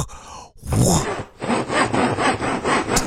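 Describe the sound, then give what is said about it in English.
A voice imitates a saw as a talent on the Telephone Talent Show: a breathy opening rasp, then about five rhythmic back-and-forth strokes of harsh, gritty noise, fairly loud and steady, with no other talk. “I can also make the sound of a saw.”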